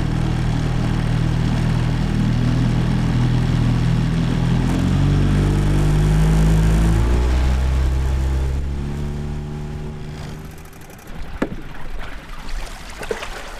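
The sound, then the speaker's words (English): A motorboat's engine drones steadily as it crosses a river to a fish wheel, its pitch shifting as it runs, then eases off and fades, followed by a few hollow knocks and clunks. “Barb climbs out of her boat onto a wooden raft anchored a dozen feet from shore”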